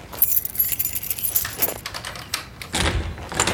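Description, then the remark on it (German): A caretaker's bunch of keys jangles and rattles in bursts, followed by the clunk of a lock turning and the door of a primary school being pushed open, with no voices. “Der Hausmeister öffnet den vier Freunden die Tür der Grundschule und schaltet dann die Lichter ein.”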